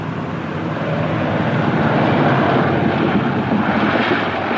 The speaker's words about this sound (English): The plane coasts toward the ground.